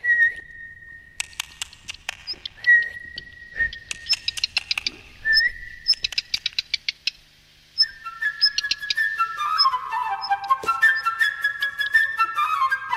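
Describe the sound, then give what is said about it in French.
A child whistles an imitation of a redstart's song: steady, held whistle notes broken by bursts of rapid clicking trills, then a busier run of quick, falling chirps. No one speaks. “j'imite le rouge queue.”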